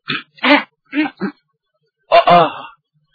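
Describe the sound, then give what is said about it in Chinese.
A storyteller imitates the character Zhao Bi coughing urgently beside Huang Tianba: four short, sharp coughs in quick succession, a brief pause, then one longer, rasping cough, fairly loud with no other sound. “黄天霸行完礼，退在一旁，赵壁在旁边紧咳嗽。”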